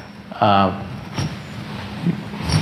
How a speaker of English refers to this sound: sorry about the squeaking